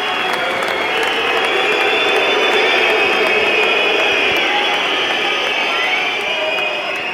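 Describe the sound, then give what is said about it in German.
A large stadium crowd roars steadily with booing and shrill whistles aimed at the referee, a loud, unbroken wall of noise from start to finish with no one speaking. “Ja, da kamen tatsächlich ein paar Buhrufe und Pfiffe tatsächlich dazu.”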